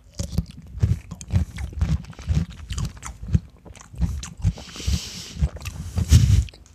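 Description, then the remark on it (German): Biting and chewing of crunchy salt-dill pickles, with repeated wet crunches in a steady rhythm, loud, and no talking. “So, ja, dann mal reinbeißen, ne?”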